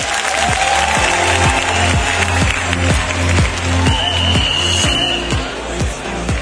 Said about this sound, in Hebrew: חברים, תנו להם מחיאות כפיים על המהפך האדיר שהם עשו ברדיו הזה בשנים האחרונות, שהפכו את הרדיו לרדיו המוביל ולמדיה ולכלי התקשורת המוביל במגזר החרדי והדתי. זה לא מחיאות כפיים מספיקות, חברים.